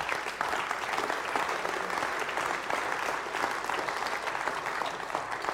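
A church audience applauds steadily for several seconds on Easter morning as a man is welcomed up to tell his story, a dense, even wash of many hands clapping at a constant loudness with no voices standing out.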